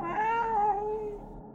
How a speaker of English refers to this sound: Where am I now? Is that a cat?